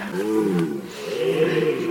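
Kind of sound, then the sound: animal, deer bellowing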